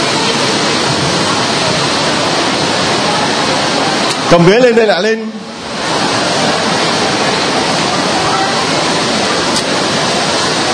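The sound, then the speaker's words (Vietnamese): Heavy rain pours in a steady, loud, hissing roar that never lets up, with a brief burst of hurried talking partway through. “Dây lên, mưa to rồi, mưa to rồi, mau lên, mưa cứ ướt hết.”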